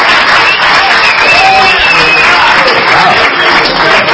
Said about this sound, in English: Are you applauding the hatred, or what exactly are you applauding?